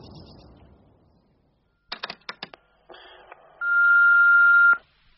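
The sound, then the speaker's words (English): A telephone rings with a quick cluster of four sharp, bright pulses, followed by a short buzzy tone and then a loud, steady high-pitched beep lasting about a second as an answering machine picks up. No one speaks. “I can't come to the phone right now, but if you'd like to leave your name and number, I'll get back to you.”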